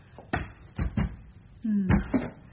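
A locked, solid door at Chilton Ashwell is tried: a series of sharp rattling thumps as the handle is pulled and pushed, with a brief low creak of strained wood partway through.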